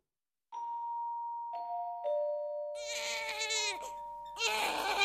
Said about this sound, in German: Mitten in der Nacht schreit das Baby. Es ist Zeit für den Mitternachtssnack.